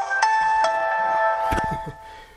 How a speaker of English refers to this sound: My phone.